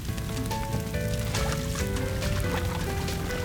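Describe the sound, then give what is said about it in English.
Water pours and splashes in quick bursts as buckets of water brought from a pond are passed along, over a steady bed of tonal background music with no talking. “We'll need to use those buckets to bring water over from the pond.”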